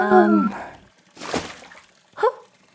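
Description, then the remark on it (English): A single watery splash bursts out midway as a coyote drops something into a pool, framed by short voiced sounds before and after. “What did you just drop in the pool?”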